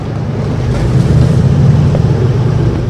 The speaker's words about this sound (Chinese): 两艘橡皮艇启动引擎